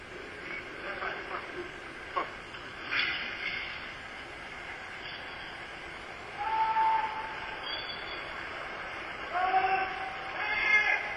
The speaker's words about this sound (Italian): Dalla fessura di un portone in via Martelli il nostro microfono clandestino coglie una fase dello smantellamento delle linee aeree del tram.